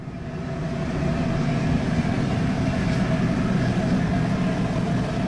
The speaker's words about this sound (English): The roar of natural gas in the glass furnaces is nearly overwhelming.